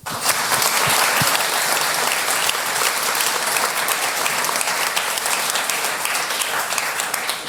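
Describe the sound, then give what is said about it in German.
Steady, dense applause from a sizable audience welcoming a cybersecurity lecturer before his talk, many hands clapping at once in a continuous wash of sound that holds at full volume throughout, with no voices standing out. “Einen kleinen Applaus bitte für Tom Gries.”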